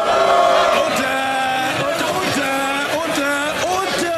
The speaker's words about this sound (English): That's members of the UK Parliament screaming at each other. Enough of that.